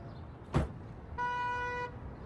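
Someone gets out of a car: a single sharp door thud, then a steady, bright horn-like tone holds for under a second over a low engine hum. No voices.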